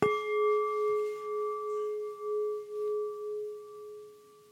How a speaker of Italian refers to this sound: Quindi mettiamoci comodi, iniziamo pure la meditazione. Ogni tanto sentiremo il suono della campana.